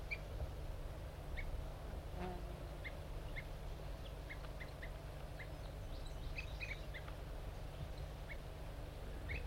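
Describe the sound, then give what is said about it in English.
Two birds, labeled 4-3 and 5-3, placed together in a forced, aggressive encounter, fight and call, giving short, high chirps and peeps in irregular bursts over a steady, hissing background rumble, with no talking. “I put 4-3 in with 5-3, and they're fighting furiously, hoping to lure in the wild birds.”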